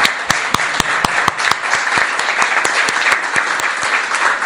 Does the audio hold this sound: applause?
yes